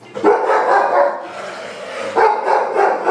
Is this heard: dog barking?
yes